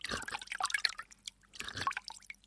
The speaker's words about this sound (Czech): Žíznivá princezna slezla z koně, naklonila se nad vodu v potoce a pila.